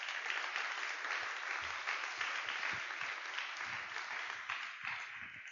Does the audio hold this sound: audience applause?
yes